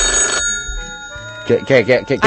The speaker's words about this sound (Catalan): Què està passant aquí? A veure. No ho sé. Un moment, què està passant? Telèfono. Algú s'ha deixat el mòbil obert?